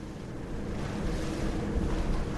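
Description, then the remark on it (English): A boat churns steadily across open sea, its low engine rumble blending with rushing water and gusts of wind buffeting the microphone, continuous with no voices. “Well, I'm back on the boat now and homeward bound.”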